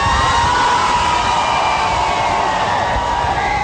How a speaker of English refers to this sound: There were cheers on Monday as Pope Francis emerged from his plane in Rio de Janeiro for his visit to Brazil.